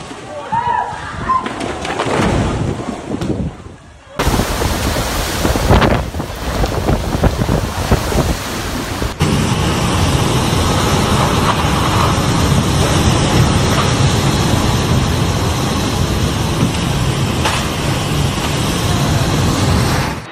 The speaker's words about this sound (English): Typhoon Babinka, the strongest storm to hit Shanghai in 75 years, is hitting the financial hub, bringing it to a near standstill and causing extensive damage.